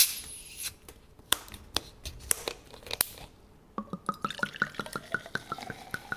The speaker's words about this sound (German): Also es klingt klar nach einer Flasche, die aufgemacht wird und ein Getränk, das in ein Glas oder in einen Becher reinfließt und es kröselt auch schon so. Es klingt nach Kohlensäure. Das stimmt.